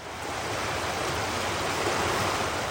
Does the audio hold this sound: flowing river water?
yes